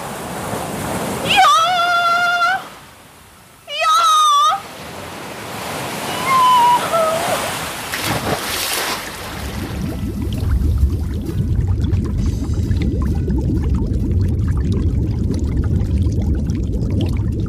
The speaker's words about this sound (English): Without my friends from Toyland to help me, I couldn't steer the boat, and the rain was coming so fast, and the wind was blowing so hard, and I was still a donkey.